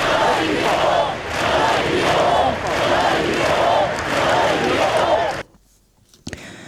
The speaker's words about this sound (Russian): В Барселоне состоялся траурный митинг с участием короля Филиппа VI и премьер-министра Мариано Рахоя, который заявил, что борьба с терроризмом – глобальное сражение и главная проблема Европы. Собравшиеся скандировали: «Нам не страшно».